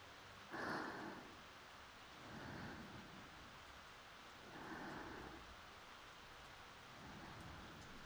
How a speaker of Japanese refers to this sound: あれ、虫の声が聞こえない。これは雨が降ってきましたね。大丈夫、軒下に窓があるから雨は入ってきませんよ。